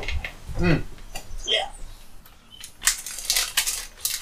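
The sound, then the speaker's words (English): Someone crunches crunchy snacks: a brief murmured voice gives way to a run of loud, crackly, irregular crunches that continue steadily to the end. “Oh, so many snacks. Crunchy snacks.”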